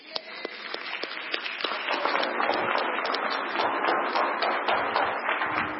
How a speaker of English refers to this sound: And it's okay to clap.